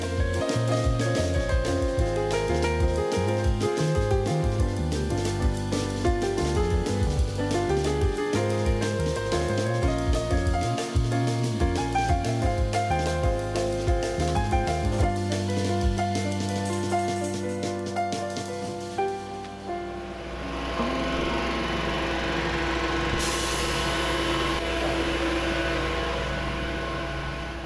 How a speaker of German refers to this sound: Ja, Baulärm. Bisschen südlich der Autobahn A2, Höhe Hannover-Garbsen. Das ist ein großer Campingplatz und ein Golfplatz hier. Es gibt auch einen Wasserskisee hier, den Blauen See. Und da sind Bauarbeiten Ende Februar, weil hier die Südlink-Trasse